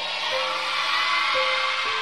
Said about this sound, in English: So please, when the preaching is going on and you are excited about the word, you need to show it. How do you show it? At least shouting, laughing, clapping, and let the church be like Young People Church. Can I get a very loud amen?